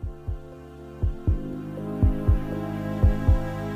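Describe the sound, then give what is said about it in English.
A deep, thumping heartbeat at the start of a song repeats in steady lub-dub pairs, four beats in all, over a soft sustained musical drone with no voices. “Starts with a heartbeat.”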